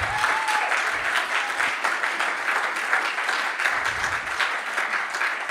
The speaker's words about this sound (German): Also lass uns mal all denen, die da beteiligt waren, einen richtig dicken Applaus geben.